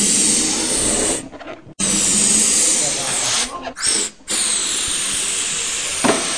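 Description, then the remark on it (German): Loud, steady hiss of gas rushing from a nozzle as balloons are inflated with children for Children's Rights Day at the primary school in Fresach on 20 November, cutting out briefly a few times before starting up again. “So, heute ist Kinderrechtetag und von der Volksschule Fresach tun wir die Luftballons aufblasen.”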